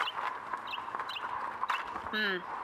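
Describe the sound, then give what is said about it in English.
Horse hooves clop unevenly and slow to a stop as a great white stallion is drawn to a halt at the rear of a small hotel in the moonlight, over a faint background, followed near the end by a short, rising, whinny-like cry. “the masked rider of the plains drew his great white stallion to a halt at the rear of the small hotel”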